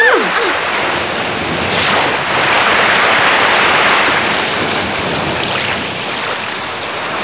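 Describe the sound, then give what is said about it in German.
A giant ocean wave crashes onto the shore of a flooded beach: a loud, sustained roar of churning surf and spray that swells, holds for several seconds, then slowly begins to ebb. “Achtung, zurück, eine Riesenwelle!”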